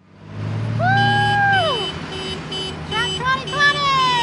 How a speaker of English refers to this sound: A parade of over 100 tractors brandishing Trump flags rolls down a thoroughfare in the northwest Iowa town of Denison.